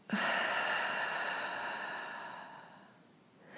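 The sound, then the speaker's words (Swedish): A long, slow breath pushed out through the mouth, a steady airy hiss that gradually fades over about three seconds before a faint new breath begins, with no talking. “Och släpper långsamt ut genom munnen.”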